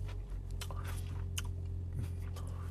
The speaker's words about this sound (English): Looks like it's not going to be gummy at all. This could be the best chocolate chip cookie of the day. Mmm. Has a good crunch to it.